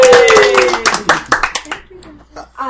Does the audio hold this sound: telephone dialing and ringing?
no